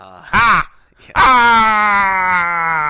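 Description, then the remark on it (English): A man's voice imitates the agonized scream of the character Oddjob dying in a James Bond film scene as sparks shoot out: a short, sharp cry, a brief pause, then a long, loud, drawn-out wail that slowly sinks in pitch. “He did that scene where he grabs the hat, and Bond touches the wire to the fence, and all the sparks shoot out, and the smoke, and the fireworks are going off, and Oddjob screams and dies.”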